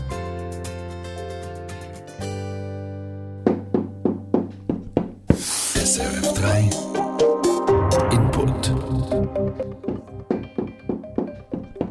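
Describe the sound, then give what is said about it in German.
A child knocks play dough against a surface, making a series of dull thumps in a loose, steady rhythm, with sustained musical tones playing in the background. “Galissa tut da mit dem Knetsch spielen und im Moment tut sie klopfen”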